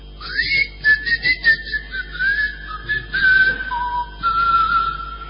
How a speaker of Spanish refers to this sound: A poco de llegar a Tracoda, se escuchaban los silbidos de los habitantes.